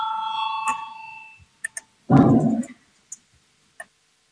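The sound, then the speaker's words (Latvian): A ringing bell tone in the Latvian parliament signals a vote on proposal 147, sounding and fading over about a second, followed by a few sharp clicks and a brief loud thump, with no voices. “Lūdzu zvanu, balsosim par 147.”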